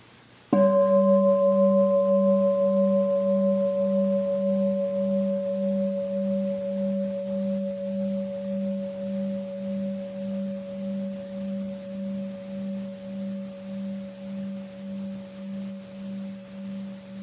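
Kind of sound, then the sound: signal or alarm, gong ringing and fading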